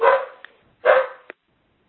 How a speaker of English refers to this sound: You'll have to pardon me. I have a barking dog in the background here.